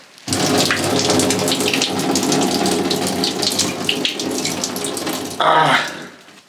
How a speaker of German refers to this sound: Wollen wir einfach mal den nächsten Liter nehmen. So. Gucken, ob auch ein zweiter Liter geht. Ich glaube, die ist übervoll. Ich kann ja mal versuchen, die Windel auszubringen. Und dann weiter zu schütten.